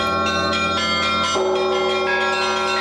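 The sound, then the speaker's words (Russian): Church bells ring out in a dense, overlapping peal, several bells sounding together with rich, sustained tones and repeated strikes, loud, with no voices; the third peal is being rung. “Третий звон звонят.”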